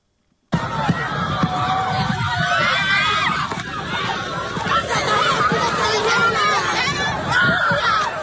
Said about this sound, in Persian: ویدیویی که کانال تلگرامی مملکت منتشر کرده است، تیراندازی نیروهای حکومتی به شرکت کنندگان در مراسم 40 علیرضا سیدی در روز 28 بهمن در آبدانان استان ایلام را نشان می‌دهد.